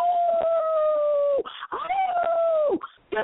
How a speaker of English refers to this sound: Quit complaining. Don't be like the howling dog.